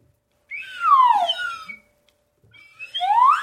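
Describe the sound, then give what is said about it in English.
Aaron Simon plays a slide whistle: it swoops downward in a long gliding tone, pauses briefly, then starts a rising slide; bright, clear pitch with faint harmonics, no voices. “And then Aaron Simon is on the slide whistle.”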